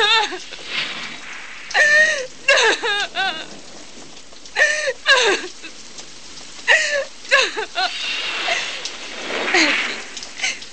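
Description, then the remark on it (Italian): Steady, hissing heavy rain of a terrible thunderstorm pours throughout, while a voice breaks in with repeated bursts of high, wavering sobs and cries. No clear thunder rumble stands out. “Le nuvole si addensarono ancora più minacciose e quasi ad accompagnare lo sfogo inarrestabile di Candy, anche il cielo si scatenò in un terribile temporale.”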